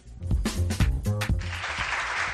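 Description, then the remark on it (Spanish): A brief burst of tonal, voice-like sound gives way to steady, dense applause from a crowd, filling the rest of the short clip at a fairly loud, even level. “Y este aplauso porque el ecomercado de la Plaza de España de Valladolid va a estrenar este domingo elementos señalizadores para delimitar su espacio de venta con una imagen diferente, llamativa y cercana, adaptada a la marquesina.”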